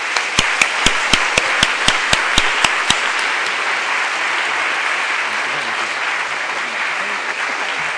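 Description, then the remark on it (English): An audience at the Webstock conference applauds a speaker at the end of his talk in a dense, steady wash of many hands clapping. For the first few seconds one loud clapper beats out a quick, even rhythm over the crowd. “Webstockers, give Darren a great big round of applause.”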